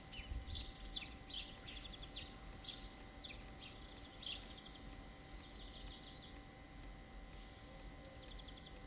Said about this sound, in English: Sparrows are fighting.